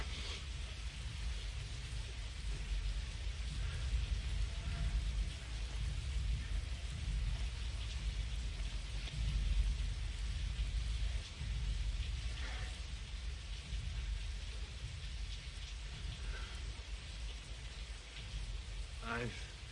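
Steady, heavy rain hisses continuously while a deep, rolling rumble like thunder swells underneath, with a few brief sharper drips or spatters standing out near the end.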